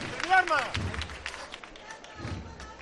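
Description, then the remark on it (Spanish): A crowd cheers a costalero (float bearer) at a procession in a dense, noisy roar, with one raised voice ringing out near the start, then continuing as a steady wash of excited voices for about three seconds. “Escucha, escucha cómo vitorean a este costalero.”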